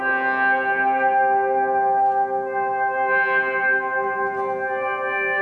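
A sustained, ambient guitar volume swell fades in and blooms into a long, washy reverb tail, made by cranking the length of the delay or reverb trail, with a second swell rising around the middle; steady and fairly loud, with no talking.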